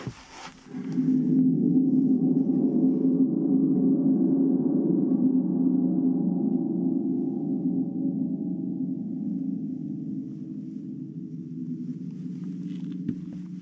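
A thunder drum, a drum with a skin and a spring suspended from it, is shaken, setting off a deep, rolling metallic rumble that swells quickly after a sharp start and then slowly fades over about twelve seconds, with no voices.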